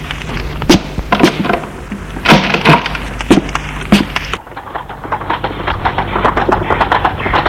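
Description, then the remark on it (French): Hooves of a horse, fetched from an inn's stable with a body put on its back, clop in a steady, sharp rhythm on a hard surface as it is taken away, then the hoofbeats turn quicker and more muffled as they carry on, with no voices. “Ils sont allés chercher le cheval à l'écurie, ont mis le corps dessus et sont partis.”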